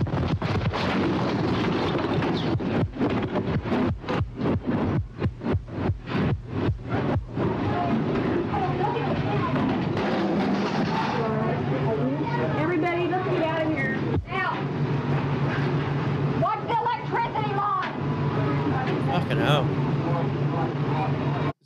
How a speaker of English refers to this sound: That's a massive explosion. Yeah. It's a giant building and it's torn in fucking half.